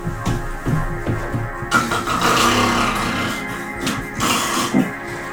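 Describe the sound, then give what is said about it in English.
A dog, Juno, snoring loudly, a rough, low rumbling repeated in quick rhythmic pulses, then a longer drawn-out rasping breath. Nobody speaks. “Juno, my dog, is snoring a lot in the background.”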